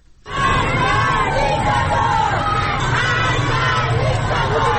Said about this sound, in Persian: به چند صدای اعتراضی در مناطق مختلف تهران گوش کنیم.